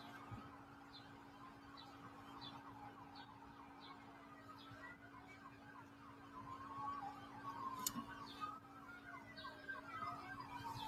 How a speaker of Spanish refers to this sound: Ahí se aprecian las sirenas y la lejanía.